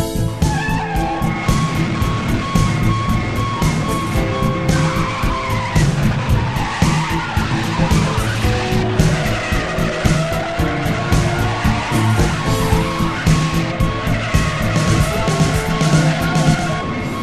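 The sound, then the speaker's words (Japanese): Loud, continuous tire skidding and squealing over roaring car engines, a frantic chase after a suspect's car near a credit union, with screeching rubber sustained throughout and no voices. “早速その車を追跡する大友くんと、あの人。”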